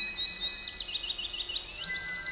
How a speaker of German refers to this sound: Plötzlich hörte Miralda ein Tweeten. Aber so eine Art Tweet, Tweet, wie es nur ganz junge Vögel tun.